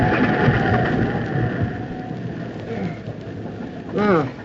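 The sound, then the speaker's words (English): A big sea wave crashes and churns in a loud, continuous roar of rushing water that barely lets up; a man's voice briefly cuts through the surge near the end. “Just fighting the sea day in and day out with all the cards against you. Hang on, here comes another big one.”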